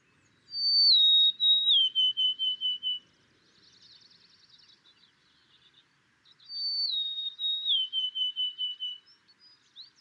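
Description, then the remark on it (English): A golden-crowned sparrow sings in Alaska, two clear, plaintive whistled phrases, each stepping down in pitch, with a softer twittering bird in between, against a quiet background. “And this is the golden-crowned sparrow.”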